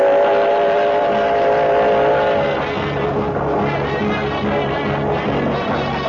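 A steam locomotive engine runs fast and loud with the throttle let out, a steady rushing mechanical roar with a whistling tone early on that fades after a couple of seconds. No one speaks.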